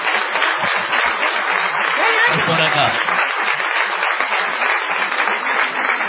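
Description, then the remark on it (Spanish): Sustained audience applause at the Cara Cigaretas, redoubled to greet a performer: a dense, steady wash of many hands clapping for the whole stretch, with a brief spoken remark rising out of the noise midway. “Vamos a redoblar los aplausos para saludar a”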